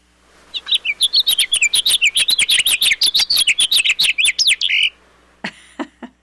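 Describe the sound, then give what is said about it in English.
A house finch sings a long, fast, jumbled warble of bright chirping notes for about five seconds, loud, followed by a brief pause and a few short chips. “And I believe the example for this is a house finch.”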